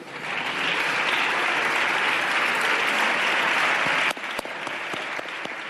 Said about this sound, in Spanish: Aquí la bancada socialista del Congreso aplaudiendo a su vicepresidente de la mesa del Congreso, Alfonso Rodríguez Gómez de Celis.